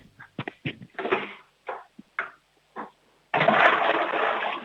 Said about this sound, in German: Boah, das ist aber eine laute Klospülung.